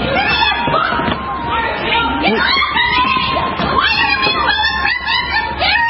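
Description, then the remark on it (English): A woman in a red coat shrieks in a shrill, strained voice about being scared, her cries rising and wavering almost nonstop, loud over the murmur of a crowd, during a dispute over a product box. “Now, the irony of this statement is the woman shrieking about being aggressive and being scared is the woman who stole the box in the first place.”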